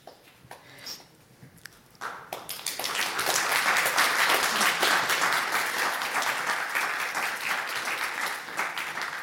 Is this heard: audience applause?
yes